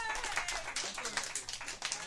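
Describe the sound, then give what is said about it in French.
An audience applauds a comedian being welcomed on stage for the evening's monologue, steadily, a dense wash of many hands clapping at once, fairly loud and sustained for the whole stretch, with faint voices mixed in. “On peut l'applaudir, tout le monde.”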